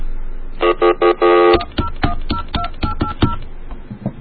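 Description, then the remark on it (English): Four quick touch-tone dialing beeps sound clear as a phone is dialed to call a phone company (AT&T), followed by a rapid string of sharp clicks and taps, with no voices. “All I want to do is call this crappy little phone company.”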